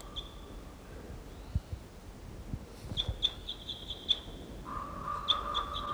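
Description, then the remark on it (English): A bird calls in high, thin whistled notes, repeated in quick bursts, later joined by a lower, pulsing call. The calls are moderately loud over faint background noise, with no talking. “They're calling wild birds.”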